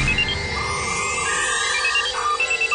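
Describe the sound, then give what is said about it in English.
A loud, warbling electronic ringtone of a comedic 'future phone' used to call someone in the future, with sweeping, sci-fi-like tones and short beeps, playing continuously for a few seconds with no one speaking. “We have the Kevin and Bean future phone.”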